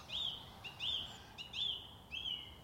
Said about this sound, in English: I've just turned round and there's a song thrush right above my head.